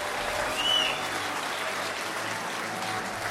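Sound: crowd applause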